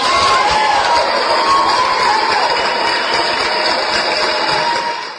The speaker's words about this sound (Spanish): Vamos a darle unos aplausos. Aquí yo se los doy.